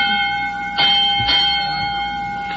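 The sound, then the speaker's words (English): A school bell on the Quiz Kids show, signaling the end of class, rings steadily and loudly for a couple of seconds, a sustained metallic tone with a couple of brief clattering bumps partway through and no talking. “that bell means... Oh, pardon me. That means the same as a dozen regular school classes over.”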